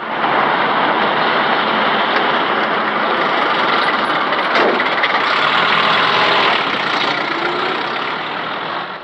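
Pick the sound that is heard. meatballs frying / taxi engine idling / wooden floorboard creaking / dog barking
taxi engine idling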